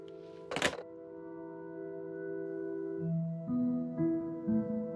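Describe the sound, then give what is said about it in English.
A telephone receiver is set down with a single dull thunk, followed by a steady electronic hum that shifts into a series of stepped, changing tones. No one speaks. “She's just said she's not interested to put the phone down.”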